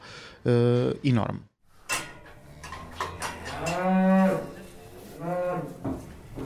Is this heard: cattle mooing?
yes